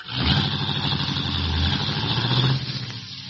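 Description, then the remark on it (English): A taxi engine idles at a red traffic light in San Francisco, a steady low rumble with a faint rhythmic throb that holds for about three seconds, then eases slightly. “Why are you stopping here? The traffic light.”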